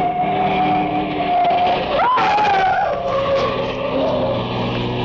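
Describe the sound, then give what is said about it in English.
A car engine roars to life down a street near the waterfront at night and pulls away with a sustained whining squeal of tires, loud throughout, rising briefly in pitch midway before steadying as it drives off. “It was a short trip because a car started up down the street, and the old man couldn't have made it with a pocket full of aces.”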